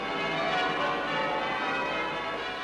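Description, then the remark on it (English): The bells of the Abbey peal continuously to celebrate a royal birth, in a dense, loud wash of overlapping tones, ringing together without pause and with no voices. “The bells of the Abbey, which a year before had seen a royal wedding, now carol a royal birth.”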